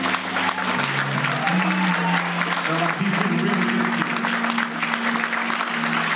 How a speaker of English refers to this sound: Hallelujah. Can we give the Lord a hand clap like you mean it?